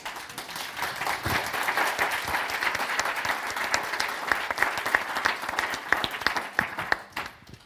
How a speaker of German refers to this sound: Und natürlich auch an euch, die ihr gerade geklatscht habt.